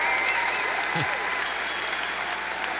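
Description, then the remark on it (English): A crowd applauding in a steady, dense wash of clapping that holds at a constant loud level for the whole few seconds, with faint voices mixed in beneath. “Yeah, the crowd love it.”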